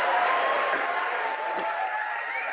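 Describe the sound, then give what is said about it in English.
A stand-up comedy audience applauds and cheers, a dense, steady wash of clapping and whooping voices that stays loud for a couple of seconds with no one speaking over it. “Round of applause for pedo teachers, yes.”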